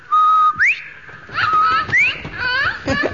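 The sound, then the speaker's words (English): A parrot that has flown to a person's shoulder whistles loudly on its own: a steady held note, then a series of quick rising swoops mixed with chattery, warbling squawks over about three seconds. “I say, that's a jolly-looking parrot. And he flew right to your shoulder.”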